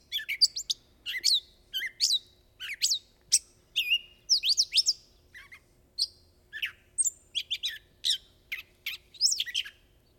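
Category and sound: bird, gray catbird summer song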